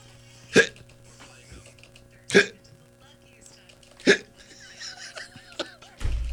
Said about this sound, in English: You know, I don't just hate that when you get the case of those hiccups. Oh, it's the worst.